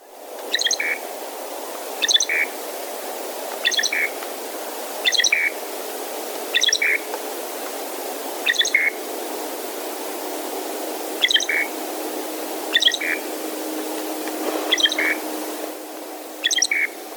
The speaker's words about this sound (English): And next for the loggerhead shrike, we have the longer song that's not in the least bit musical and sounds more like hiccups and can be heard here.